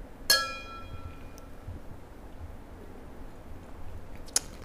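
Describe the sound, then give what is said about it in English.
Glasses clink together in a toast, a bright ringing tap that shimmers and fades, followed by quiet room tone and a second, shorter clink near the end. “We can cheers to her in honor of her needing one.”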